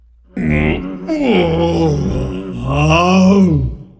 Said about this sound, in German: Da schlug sie den Bogen über die Saiten, dass das Cello stöhnte.